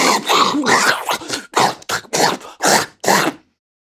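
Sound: large dog growling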